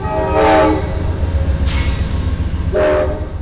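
A train horn sounds two loud, sustained blasts, one near the start and one near the end, over the steady heavy rumble and clatter of a passing train.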